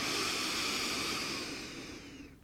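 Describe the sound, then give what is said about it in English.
A slow, deep breath in and out, a soft airy hiss that holds steady and then tapers away, with no talking. “So I want you to take three deep breaths, breathing in, breathing out, blowing away any unnecessary nervous tension. Breathing in.”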